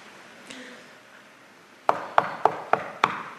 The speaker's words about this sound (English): A knock on his bedroom door, a sit down on the side of the bed, heart pounding, a deep breath.